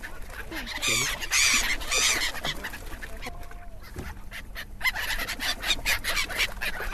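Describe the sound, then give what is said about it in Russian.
A flock of waterbirds, many come from Siberia to winter, honks and calls over the water of Lake Qionghai at golden sunset, many overlapping voices, some loud, others fainter, with a continuous chorus throughout. “Из гаммы шеи тела поднимаются стаи птиц.”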